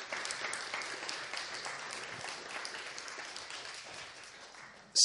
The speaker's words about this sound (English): By all means, give her a round of applause for her new job.